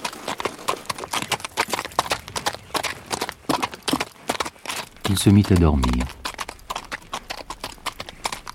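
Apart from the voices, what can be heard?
horse hooves clip-clopping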